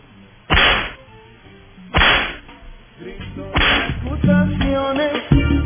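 Loud whip lashes crack out one at a time, about four sharp snaps spaced a second or more apart, with a low musical tone swelling beneath the later ones.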